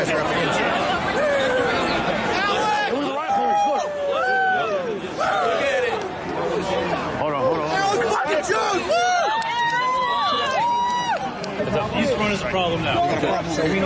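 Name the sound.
large crowd chatter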